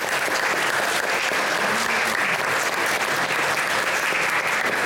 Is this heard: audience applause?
yes